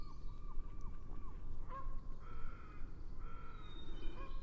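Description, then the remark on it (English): Northwestern crows call repeatedly about 50 meters away from the top of a tall spruce tree in open cottonwood habitat, harsh overlapping caws over a steady low background rumble, with faint high notes of a Wilson's warbler in the background. “Northwestern crows, and there's a Wilson's warbler also in the background.”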